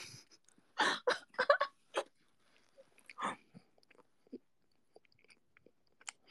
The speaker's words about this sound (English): Because we can hear you getting full blown Kirby on that pizza. Oh my goodness. You can hear me that clear. I didn't do that. I'm now self-conscious of my chewing.